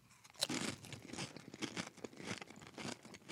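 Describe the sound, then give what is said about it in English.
Loud crunching of crisp Doritos chips being chewed, with sharp irregular bursts of crackle repeating every fraction of a second, no voices. “Bananas are not bad. Mm-hmm. Doritos, mm-hmm. Delicious.”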